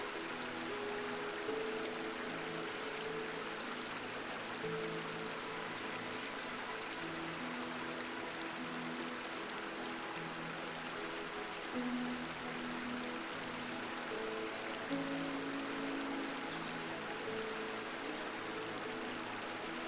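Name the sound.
river water flowing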